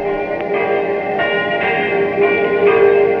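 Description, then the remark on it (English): The bells of a little Normandy village church two or three miles from Caen ring continuously, overlapping strikes every half second or so blending into a dense, sustained metallic wash of tones. The pealing is loud and steady, with no voices. “The curé of this little Normandy church, 2 or 3 miles from Caen, wants me to say how sorry he is about these bells.”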